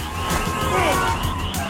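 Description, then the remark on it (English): A car engine roars as the driver floors it and turns left while fleeing police, joined by a wailing police siren in a loud, continuous rush of chase noise. “Paul floors it. He turns left.”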